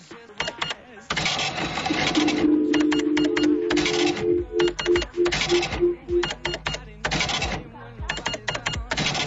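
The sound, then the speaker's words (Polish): An electronic cash register rattles out a receipt in choppy mechanical bursts, with a run of short electronic beeps chiming through the middle. Fairly loud, with no talking. “Kasa. Jaka kasa? No, taka do pieniędzy. Kasa elektroniczna. Dobrze, zaliczone.”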